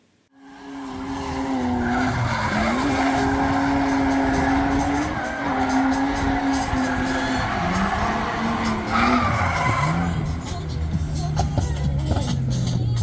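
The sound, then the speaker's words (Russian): A drift car's tires skid and squeal continuously over a loud, droning engine, the screech holding a steady pitch with wavering dips for about thirteen seconds. “В картинге и дрифте очень много общего, схожего, полезного. Тот же задний привод, такие же повороты, такой же асфальт.”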